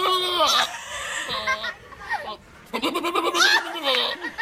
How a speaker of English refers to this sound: This is a goat that screams and sticks its tongue out at a lady, and you have to hear it. I wish the lady wasn't laughing like the crazy Yenta that she is, but the goat itself is fantastic.